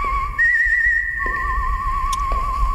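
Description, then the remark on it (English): A person whistles long, sustained notes with a gentle vibrato, shifting pitch only slightly as a slow melody unfolds, clear and up front over a low, rumbling background. “Whistling, by the way, was done by … out of Milwaukee.”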